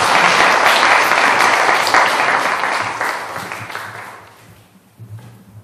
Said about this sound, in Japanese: 皆さん、では祝福の拍手をよろしくお願いします。